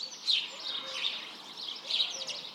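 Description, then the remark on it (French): Birds twitter and chirp in repeated bright bursts, steady, with a faint low cooing of pigeons and turtle doves beneath, in the foliage of leafy trees; no voices. “Les pigeons et les tourterelles organisent leurs petits rendez-vous dans les feuillages.”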